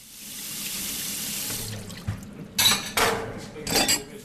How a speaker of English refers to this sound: washes the dishes after they eat.